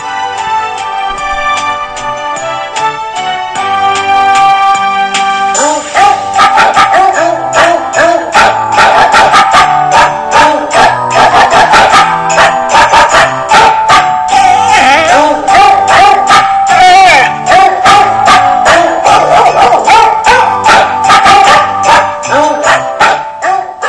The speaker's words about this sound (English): When you hear a dog barking Christmas music, folks, that is a sign of an official Robin report.